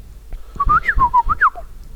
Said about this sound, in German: Ich versuche mal zu pfeifen, ohne dass es hier übersteuert. Und du kannst erraten, aus welchem Film das stammen könnte. Pass auf jetzt. Lippen gespitzt.